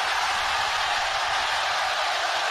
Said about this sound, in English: Say hi to the whole world right now. Say hi. Scream so loud that the rest of the world can hear you. 1, 2, 3, scream!